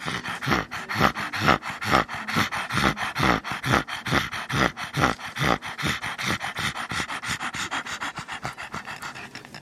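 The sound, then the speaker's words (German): A dog, Rocky, pants rapidly and heavily, each harsh, wheezing breath following the last in a steady rhythm for the whole stretch, with no talking; he pants and rattles more the more he resists and gets agitated, no longer getting enough air. “Je mehr sich der Rocky wehrt und aufregt, desto mehr fährt er an von hecheln und röcheln.”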